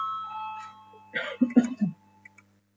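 An electronic voting bell in a parliament sounds before a vote on a proposal, a sustained, steady tone that fades out, followed by a short burst of muffled voice, all over a low steady hum.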